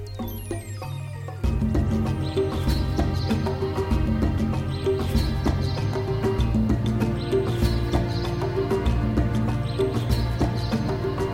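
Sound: rhythmic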